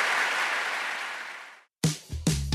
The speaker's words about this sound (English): All right, folks. Can you give us a big round of applause to our wonderful panelists?